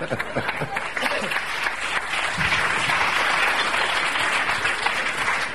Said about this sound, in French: On applaudit.